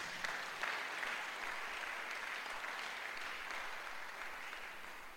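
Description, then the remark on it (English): Sustained applause from a crowd clapping for Jesus during a sermon, a dense, steady wash of many hands clapping at once that holds at an even loudness for several seconds, tapering slightly at the end. “Clap for Jesus.”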